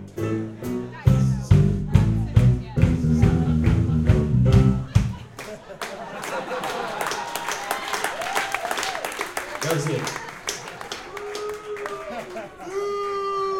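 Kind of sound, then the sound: crowd, audience booing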